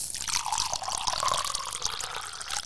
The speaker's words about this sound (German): Der Zauberer war schlau und ging zum Wassereimer und schüttete Wasser auf die Gremlins.